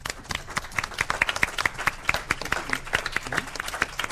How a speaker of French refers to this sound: On s'applaudit pas nous, on applaudit l'Espace Mendès France.